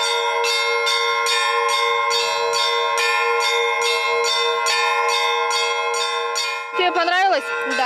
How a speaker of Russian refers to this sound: И мне хочется пожелать им успеха, а всем нам духовного и радостного восприятия этого колокольного звона.